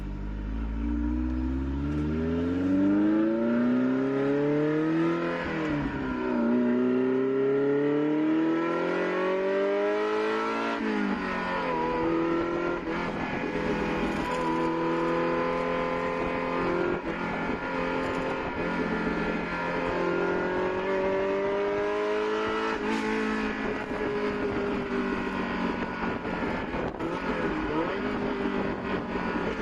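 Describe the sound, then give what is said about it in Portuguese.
A Ferrari Mondial 8 V8 engine of about 215 horsepower revs loudly, its pitch repeatedly climbing and dropping as it accelerates through the gears, with no voices over it. “Pessoal, o que vocês ouviram aí é uma Ferrari Mondial 8, que é a Ferrari mais, talvez a mais lerda dos tempos modernos aí.”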